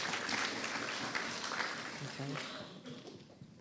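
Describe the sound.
A group claps together in a dense, steady patter, applauding two people who did really well, that gradually thins and fades, with a few voices murmuring underneath as the applause dies down.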